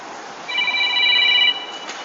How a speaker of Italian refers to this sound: Ah sì, scusate perché mi ero fumato perché mi sta suonando il cellulare che non ho spento, chiedo scusa che lo spengo.